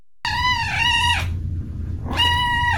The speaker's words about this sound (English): It's the unmistakable call of kitten Sheldon.